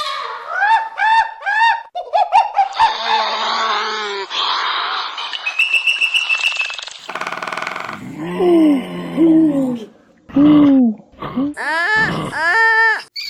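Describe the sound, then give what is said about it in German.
A rapid, loud medley of animal calls in quick succession, among them elephants, monkeys, beavers, woodpeckers, kangaroos, eagle owls, sloths, mice and pigeons, with an eagle owl hooting and pigeons cooing in low, rounded notes among the other shrieks and chatters. No one speaks. “Elefanten, Affen, Biber, Spechte, Kängurus, Uhus, Faultiere, Mäuse und Tauben.”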